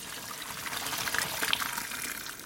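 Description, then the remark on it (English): Water pours steadily in a rushing, splashing stream as a pot of boiled baby potatoes is drained, continuous for a few seconds with no talking. “Okay, looks like our potatoes are done. So let's get them out of that water.”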